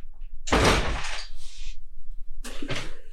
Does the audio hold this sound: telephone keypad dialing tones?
no